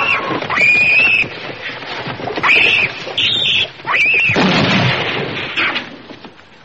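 Several loud gunshots go off in quick succession, each blast booming and echoing, with sharp high-pitched ringing tones between them and no voices; a cow is shot.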